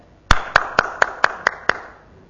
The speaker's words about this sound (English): Have you known people who have received Jesus Christ recently? What is our reaction when it's being announced? We applaud.